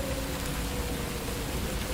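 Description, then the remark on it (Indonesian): Steady rain falls in a continuous, even hiss with no pauses, a dense wash of drops at moderate loudness with a faint low hum underneath. “Padahal bulan ini bukan musim hujan. Tapi gak apa-apa sih. Karena aku suka hujan.”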